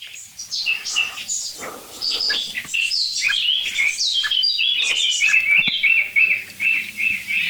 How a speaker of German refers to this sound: Es nervt im Augenblick wirklich nur die Amsel, so wirklich. Und die Meise mal ganz kurz zwischendurch.